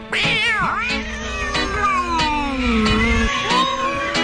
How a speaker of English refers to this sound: You got the whole neighborhood meowing now. Just stop. Stop, please.